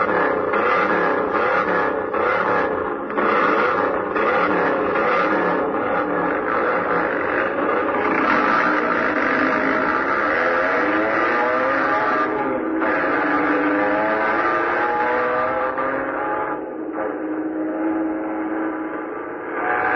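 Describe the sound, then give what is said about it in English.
Racing car engines roar loudly and steadily for the whole stretch, their pitch climbing and falling as they rev and speed along in a race over a bridge, with no talking. “But what Bobby is going to do, that race over the bridge with David, both of them can be killed.”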